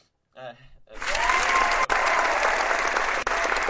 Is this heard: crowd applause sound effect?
yes